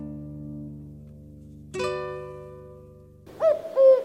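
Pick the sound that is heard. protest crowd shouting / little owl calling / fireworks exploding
little owl calling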